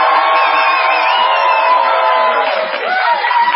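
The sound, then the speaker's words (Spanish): A large crowd in a library shouts together in protest against the Universal Organization, a loud, sustained roar of many overlapping voices, with individual yells rising and falling through the din for a few seconds. “Vamos ahora con el grito en contra de la Organización Universal.”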